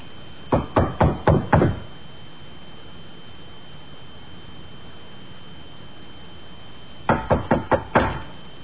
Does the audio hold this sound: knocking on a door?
yes